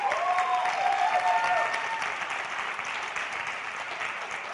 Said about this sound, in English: Round of applause.